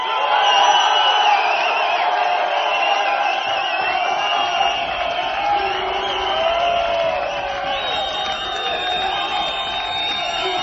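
A large audience cheers, whoops and applauds at a steady, loud level for about ten seconds, with shrill voices rising above the dense crowd roar and no single speaker standing out.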